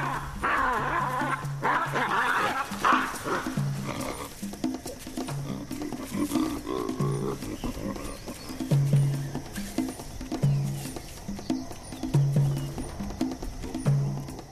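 Male baboons in a troop mount each other to settle conflicts, vocalizing in a series of rough, repeated grunting calls, some higher and more strained early on, then steady low grunts at a regular pace, fairly loud over an outdoor background.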